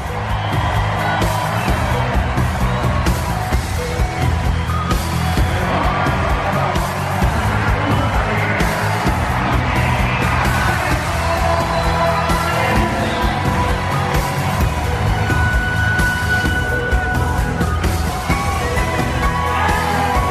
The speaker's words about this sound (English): please rise and join the Chicago White Sox and Baltimore Orioles in cheering on Bo as he takes his home run for life